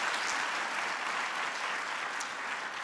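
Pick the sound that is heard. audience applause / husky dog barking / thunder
audience applause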